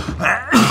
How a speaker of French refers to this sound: À vos souhaits.